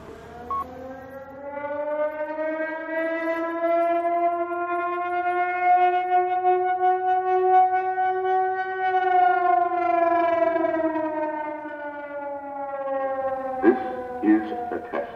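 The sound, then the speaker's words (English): A civil defense siren sounds its weekly Tuesday test, wailing in one long, steady tone that swells slightly and then slowly falls away, loud and rich with harmonics, with a few brief clicks and a short burst of radio net control talk near the end. “6RY net control standing by for net for siren.”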